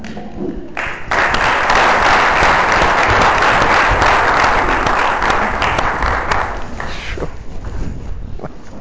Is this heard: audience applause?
yes